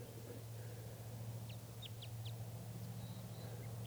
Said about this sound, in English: This bird is giving a few song phrases. Definitely type 5.